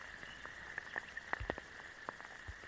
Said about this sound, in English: Back in Blackheath Forest, these are the sounds from inside a forest puddle on a rainy June day. You can hear the train hoot in the distance, the anthropophony, as well as the biophony of the birds.